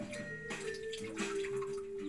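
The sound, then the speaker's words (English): Water churns and splashes steadily, with a couple of heavier surges early on, as a person jumps into deep water and it sloshes around afterward. No one speaks. “Come on, Aelia, jump in. It's fun.”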